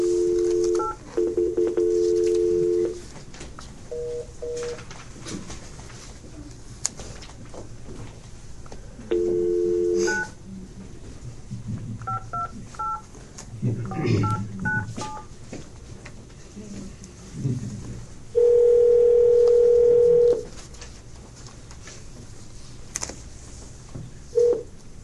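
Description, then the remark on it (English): A telephone's dialing tones chirp in short bursts as a board meeting dials a participant into a conference call, with a steady dial tone humming before and between them, then a longer flat tone near the end. No one speaks, and faint room noise sits underneath. “Dr. Ryan will be allowed then to join us via phone. So if you want to bring her in.”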